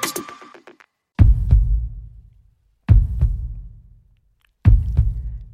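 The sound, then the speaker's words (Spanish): A slow, deep heartbeat: three loud lub-dub thumps roughly a second and a half apart, each with a booming low rumble that fades before the next. No voices. “Así, con el latido de un corazón, comienza …, el nuevo disco”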